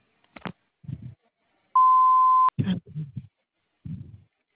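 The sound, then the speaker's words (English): A single steady electronic beep at a fixed pitch lasts under a second, loud and clear, with brief voice fragments before and after it: the tone of a phone voicemail system after the recorded greeting. “Please leave one detailed message after the tone with the best phone contact number, and I will return your phone call within 44 to 48 hours.”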